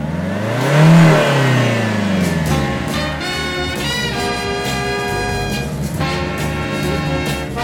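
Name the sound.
car engine revving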